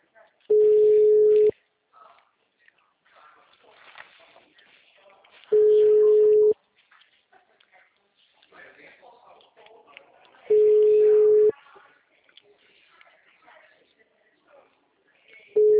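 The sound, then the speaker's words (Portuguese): A telephone busy signal: a steady, loud electronic tone sounding for about a second, then pausing, repeating roughly every five seconds, with faint voices murmuring between the tones. “Assim que o telefone estiver disponível, eu entrego o seu recado.”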